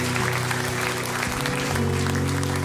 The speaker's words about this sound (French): qu'on peut applaudir la main de Dieu qui suit chacun d'entre nous sur tout âge.